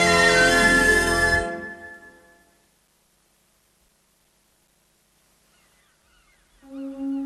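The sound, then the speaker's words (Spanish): A loud, rich swell of sound fades into near silence, then a seagull gives a nasal, honking cry near the end, clear; three seagulls fly among the clouds above the sea. No one speaks. “Tres gaviotas vuelan entre las nubes.”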